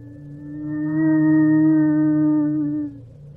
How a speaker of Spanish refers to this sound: El llanto se escuchó de repente, cerca de la casa, interrumpiendo la historia de la abuela. Se escuchó tan cercano que recuerdo la sensación de escalofrío que me provocó.